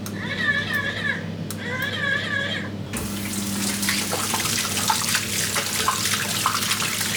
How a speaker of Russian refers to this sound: Чтобы помыть руки, даже не нужно касаться смесителя. Просто прислоните их к нему. Смочили водой, направим их чуть правее.